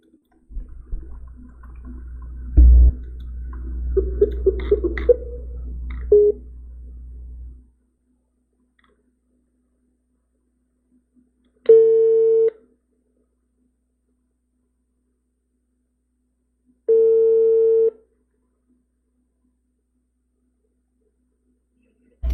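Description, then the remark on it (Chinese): Telephone line tones as a call is put through again: after several seconds of clicking, rustling handling noise, a steady electronic beep sounds twice, each about a second long and roughly five seconds apart, clear and alone. “我再把它转过去。”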